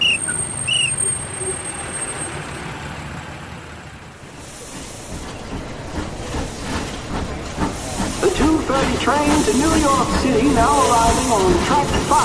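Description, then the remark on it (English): A train to New York City pulls into a station on track 5, a steady hiss of steam and rumbling rail noise building louder over the final seconds, with busy platform ambience and some talk underneath. “Train to New York City, now arriving on track 5.”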